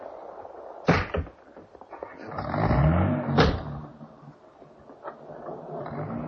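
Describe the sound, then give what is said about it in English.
A couple of solid thumps, like a car door shutting, then an engine revs up and the car pulls away, its low rumble lingering. No one speaks. “Get back in the car, darling.”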